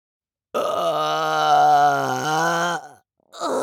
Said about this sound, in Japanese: やっべやっべやっべ、胃の中飼育されてまた出る。ザーメンゲップ出る。